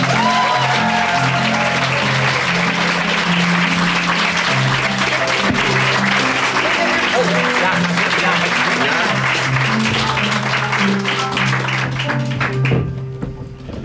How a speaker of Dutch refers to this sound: Dames en heren, mag ik een heel groot applaus